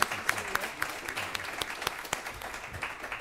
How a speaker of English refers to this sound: And please join me in a round of applause for yourselves.